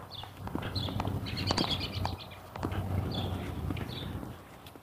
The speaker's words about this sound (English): Chirping sparrows and robins.